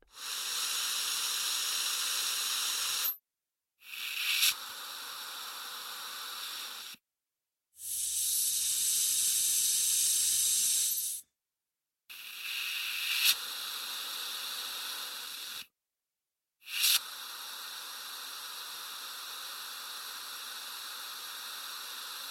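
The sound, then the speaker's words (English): Five bursts of steady pressurized hissing from a whipped cream spray bottle, used to imitate scuba equipment losing air under pressure, each lasting a few seconds and separated by short silences, fairly loud. “To achieve the hissing sound of the scuba equipment, the device loses the air under pressure, Hans Schüttler has used a spray whipped cream bottle”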